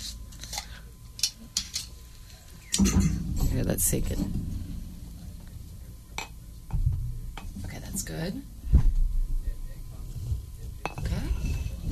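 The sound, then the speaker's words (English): Glasses clink and knock several times in short, bright taps while a thick homemade smoothie of spinach, plums, peaches and apricots is poured, with people talking over the clatter in bursts. “We're going to let you pour.”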